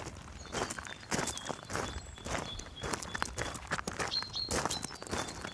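footsteps walking

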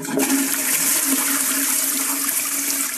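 toilet flushing

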